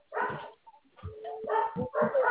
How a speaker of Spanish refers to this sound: Tiene que callar a los perros por esa weá, no me escuchan.